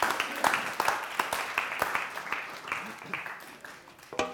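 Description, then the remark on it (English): A church audience claps for a team as they go back, in a steady, dense patter of overlapping hand claps at moderate volume, with a few sharper individual claps standing out and faint voices mixed underneath. “Give them a clap as they go back.”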